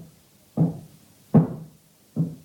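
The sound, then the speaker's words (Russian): Three solid knocks on a door, evenly spaced about a second apart, each a dull low thud with a short decay, sounding alone with no talking. “Вон, Клавденька стучит.”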